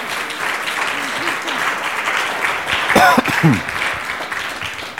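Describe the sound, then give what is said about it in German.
A steady wash of audience clapping fills the whole stretch at an even loudness, with a brief cheer and some voices rising over it around the middle. “super, wunderbar, das verdient jetzt wenigstens einen Applaus, ja, also...”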